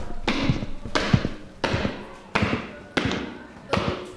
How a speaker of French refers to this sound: Le chef d'orchestre referme la porte dans un grincement et à grandes enjambées, rattrape le petit garçon.